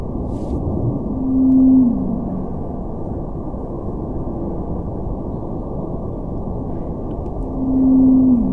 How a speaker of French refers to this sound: Là, on vient d'entendre 2 vocalises de baleine bleue antarctique. Donc il faut savoir que c'est des enregistrements qui sont accélérés pour qu'on puisse les écouter. C'est 5 fois plus lent en vrai. C'est des signaux qui sont émis à 27 Hz.